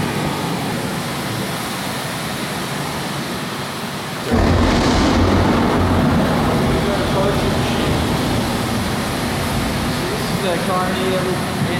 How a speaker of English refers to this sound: Storm comes and goes over 10 minutes. Here's the fan coming on now to blow air around to make you feel cool. Well, before the storm gets too intense, we're gonna exit out.